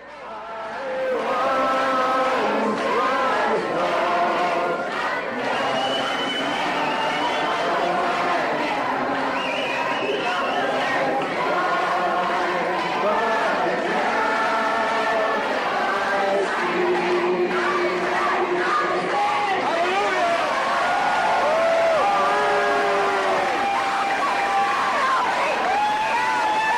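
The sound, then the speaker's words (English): At an abortion protest in Texas, a large crowd sings the hymn Amazing Grace slowly in unison while other voices chant and shout against them, including shouts of Hail Satan, the two sides clashing loudly and continuously throughout. “There's a crowd singing Amazing Grace and then others chanting against them, even shouting out, Hail Satan.”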